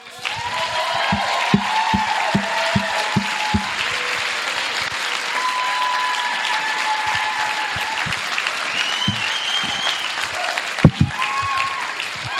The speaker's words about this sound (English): So give a massive round of applause, please